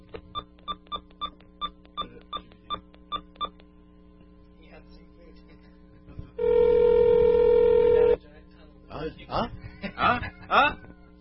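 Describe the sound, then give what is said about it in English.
About ten quick touch-tone keypad beeps dial a 1-800 phone number, then after a pause a single long ringback tone sounds, followed by a recorded voice beginning to say over the line that the number is not in service. “It's ringing. Two ringy dingy.”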